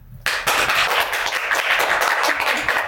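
An audience in a library reading room breaks into applause after a brief quiet moment, at the results ceremony of the regional spring online tournament of amateur poets, 'Poetic Lyre'. A dense, steady wash of many hands clapping at once that stays loud and even throughout, with no voices heard.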